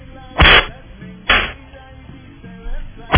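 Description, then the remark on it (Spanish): Three sharp, snapping cracks of a whip being swung ring out at uneven intervals, each a loud, brief burst over a faint, murky background. “Se me enredó ahí el látigo, ¿verdad?”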